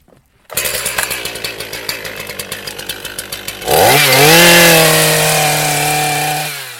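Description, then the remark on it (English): A chainsaw idles with a pulsing, sputtering rhythm, then roars up to full throttle and holds a loud, steady whine as it cuts the heel off a hazel stem (pleacher) during hedge laying, before cutting off. “Just because of the size of the pleacher that we've just done, I just need to use the chainsaw to take off what we call the heel.”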